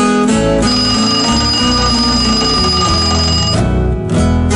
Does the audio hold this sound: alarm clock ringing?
yes